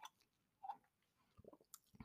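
food or drink, sipping a drink

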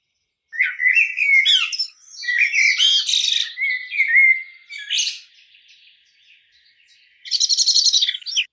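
bird, blackbird alarm call

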